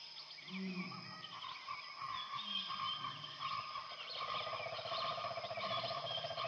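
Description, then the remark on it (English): Dense jungle ambience in humid, hot air: a steady wall of insect buzzing and trilling, layered with scattered chirps and warbling calls, continuous, with no talking. “The sounds around you are full and rich and very foreign. Chirps and buzzes and long, warbled humming and popping.”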